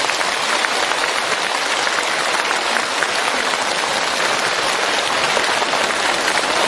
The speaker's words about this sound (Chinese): 今天这么多法师前来助缘，台长用大家的掌声来替我感恩他们。